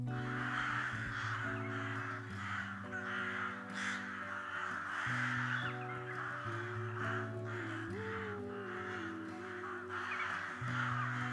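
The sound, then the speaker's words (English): Repeated harsh crow caws ring out in a loose, irregular series over a steady bed of sustained musical tones, the calls fairly loud. “Crows, frequently dismissed as mere producers of background noise, have remarkable intelligence and an incredible knack for problem solving that parallels the complex thinking that we value in human society.”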